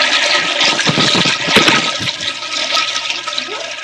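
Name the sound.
toilet being flushed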